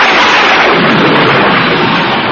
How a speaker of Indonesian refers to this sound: Ya, petir dan hujan yang datang tiba-tiba ini pasti karena paduan ilmu mereka.